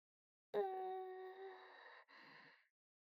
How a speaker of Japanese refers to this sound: さあ、何の音かしら。あんたのお腹が鳴ったんじゃないの？